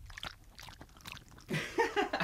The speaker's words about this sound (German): Das ist, hier trinkt ein Hund.